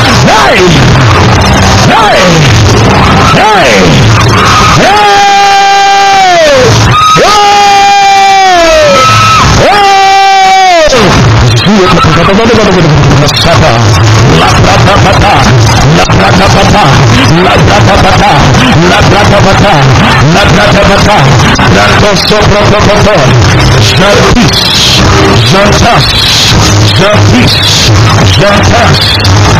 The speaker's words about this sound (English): There is shaking. There is screaming. There is agonizing.